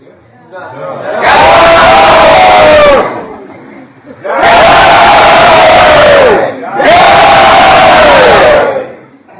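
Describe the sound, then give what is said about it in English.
A large crowd in a hall shouts "Jai!" together in unison three times. Each loud, sustained cry lasts a couple of seconds on a shared pitch, with short pauses between. “Everyone in the hall screamed out, "Jai!"”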